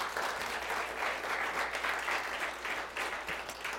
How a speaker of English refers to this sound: Let's give Jesus a great hand clap of praise.